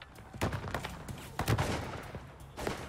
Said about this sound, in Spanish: A las 4 de la mañana del 13 de enero de 1985, el FBI, los Rangers de Texas y el alguacil del condado de Johnson intercambiaron disparos con los secuestradores de Amy McNeil, de 13 años de edad.